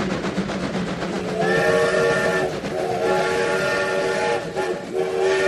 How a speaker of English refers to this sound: Let's get this train chugging along again, because we have one more stop to make.